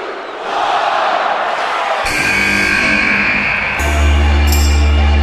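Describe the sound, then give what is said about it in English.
A huge arena crowd at the Royal Rumble wrestling event roars and cheers loudly and continuously for AJ Styles' debut, swelling further partway through as his booming, bass-heavy entrance theme with sharp musical hits kicks in over the noise. “Huge pop is an understatement for the reaction he got.”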